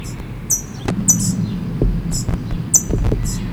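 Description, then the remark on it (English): A parent parrot up in a tree gives sharp, high chipping calls in short bursts, three or four clusters spaced irregularly over a low, steady background rumble. “Parent is up in the tree chipping.”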